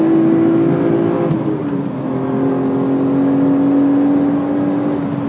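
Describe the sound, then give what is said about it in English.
A loud race car engine drones steadily as the car goes through a chicane, its pitch dipping briefly before settling into a sustained high whine. No voices. “Through a chicane. Listen to the engine.”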